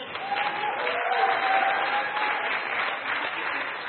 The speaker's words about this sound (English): Somebody cheer for us, please.